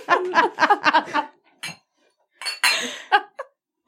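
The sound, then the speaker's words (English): Glasses clink together in a toast, a quick run of bright, ringing taps, then a pause and a few more scattered clinks and clatters. “Cheers. Let's clink.”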